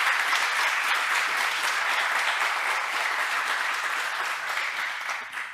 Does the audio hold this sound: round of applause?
yes